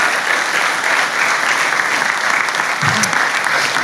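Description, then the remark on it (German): Sustained audience applause for four people who shared their stories, a dense, steady wash of many hands clapping at an even loudness throughout, with no speech over it. “Yes, vielleicht können wir allen vier nochmal einen großen Applaus geben.”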